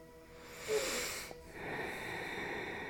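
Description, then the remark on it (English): A slow breath: an airy, hissy inhale that breaks off briefly, then a long steady exhale, soft and breathy with nobody speaking. “Except breathing. That's the doing.”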